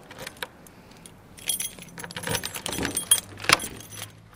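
Keys jingle and clink in bursts as the doors to the old Kleiderfrei halls are locked, with metallic rattles and a sharp click near the end, over a low background hum.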